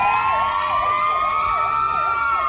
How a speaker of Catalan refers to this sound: el parc de bombers de Girona han fet sonar les sirenes dels camions.